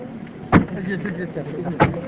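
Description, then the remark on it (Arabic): A car door slams shut twice, two solid thuds about a second apart, over a low background hum with faint murmuring voices. “زين اجلس انتظر خلينا نسكر الباب.”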